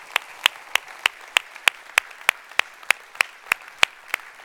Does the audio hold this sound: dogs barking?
no